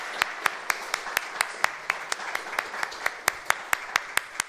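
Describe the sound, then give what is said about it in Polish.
An audience applauds for a worship band: a dense, steady wash of clapping, with one person's sharp claps standing out in a quick, even rhythm throughout. No voices are heard. “Naszemu nowemu zespołowi uwielbieniowemu należy się chyba kilka oklasków, nie?”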